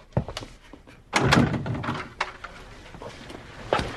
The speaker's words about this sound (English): Open the door for me, please.